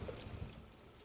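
A small garden waterfall just outside a house trickles steadily on a sunny day in Southern California, a soft continuous splashing and burbling of water, with no voices over it.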